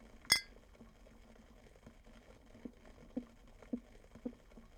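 household object, glasses clinking

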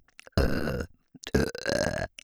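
human body sound, burping

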